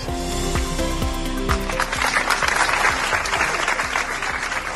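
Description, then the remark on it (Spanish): Steady applause from a sizable gathered crowd, many hands clapping at once with a dense, continuous patter that swells slightly midway and holds without voices or cheering, at a school community's tribute in Sama de Langreo to a murdered woman. “Aplausos, silencio y una pancarta con el lema «Callar no es una opción».”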